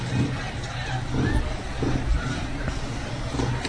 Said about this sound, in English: Here comes another idiot pickup truck the other way.